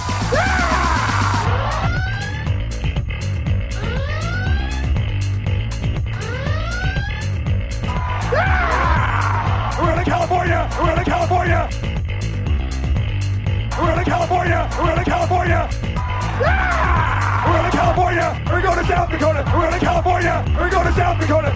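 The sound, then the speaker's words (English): A large crowd at a rally roars and screams continuously, with high whooping cries rising and falling over a dense, loud wall of cheering that never lets up. “Let me hear you scream.”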